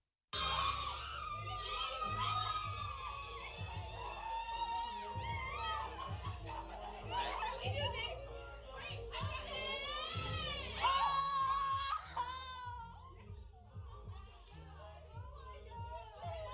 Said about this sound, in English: So, okay, you probably didn't take a lot from all that yelling, but they're doing the call of Zeta Phi Beta Sorority Incorporated.